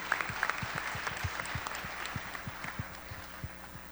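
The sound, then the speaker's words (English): An audience applauds steadily, a dense wash of many hands clapping with sharper individual claps popping through. The clapping holds at an even, moderate level throughout, with no voices over it. “So I am thrilled to be here, and I want to applaud these children for leading us.”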